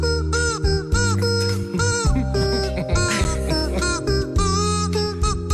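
Rubber chickens squeak and honk together in four-part harmony, loud, their strained, nasal tones sliding and holding in a short rhythmic tune as a cover of a pop song, with no voices.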